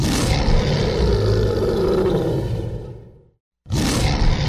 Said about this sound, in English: why do lions always roar?